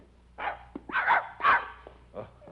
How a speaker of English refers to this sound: Hello, Lazarus. Good dog.